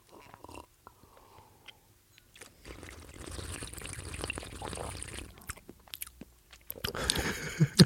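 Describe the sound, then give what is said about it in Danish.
Noisy slurping of a drink to taste it, a long airy sip lasting a few seconds, with small clicks and mouth sounds before and a louder burst of sipping and swallowing at the end. “jeg er jo lidt en vinmand, så jeg smager lige på tingene ved lige at slubre lidt.”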